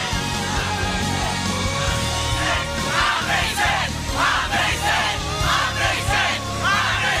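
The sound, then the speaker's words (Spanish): A crowd shouts and cries out together in overlapping voices, a loud, sustained roar with repeated surging bursts over a steady low rumble. “No sé lo que están gritando, pero tócalos, jóvenes.”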